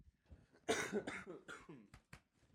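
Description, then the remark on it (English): A raspy fit of coughing: three heavy hacking coughs in quick succession, followed by two shorter, sharper coughs, with no talking. “What is coughing? Oh, I have a cough drop too.”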